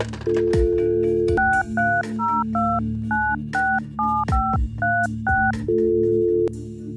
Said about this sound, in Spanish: El teléfono sonó.